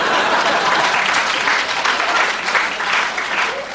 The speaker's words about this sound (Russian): Девушки аплодируют, я вижу.